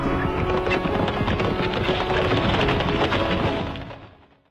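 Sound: horse galloping hooves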